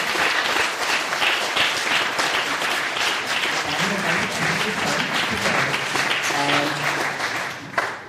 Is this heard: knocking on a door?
no